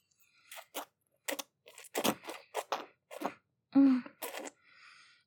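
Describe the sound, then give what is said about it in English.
A short vocal moan or whimper rises briefly among a series of crisp, crunchy bursts, with no talking. “Can you hear how your whimpers and moans come across on the audio track?”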